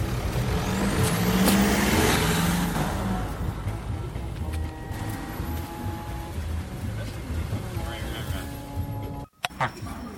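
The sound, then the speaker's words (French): Heavy trucks rumble past in an area with many factories, the loudest one swelling and fading in the first few seconds, followed by steady traffic roar, a sharp hiss like an air brake, and faint voices underneath. “Il y a des camions.”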